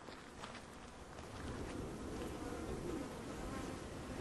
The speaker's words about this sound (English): Oh, okay, there's our first bee coming around inspecting us. Okay, we're going through the gate. Can hear the bees. They're flying pretty normally.